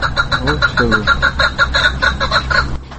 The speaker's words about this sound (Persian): این پرنده خورد صحبه. این همین کپکایی که مثال حاضر شما نگاه میدارید در شرایط خونه هم در همین قفص هم نسل میگذارد؟ زیاد میشه؟ نسل نمیگذارد.